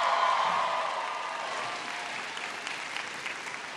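Sustained applause from an audience, a dense wash of many hands clapping at a steady level for several seconds, tapering slightly toward the end, with no one speaking.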